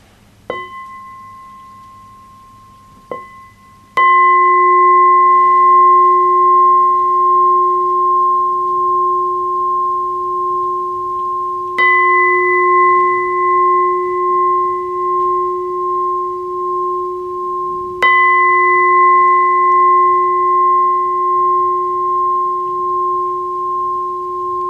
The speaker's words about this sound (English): Before we continue the session tonight, I would like to invite three sounds of the bell so we can come back to ourselves, feel free, and enjoy the present moment.